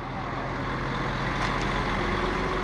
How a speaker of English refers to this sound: The musty smell of fermenting cocoa is running down this lane of trucks outside the Cargill plant. I've counted about 150 30-ton trucks, all different coloured trucks, with writing from their former lives in Germany, France, etc.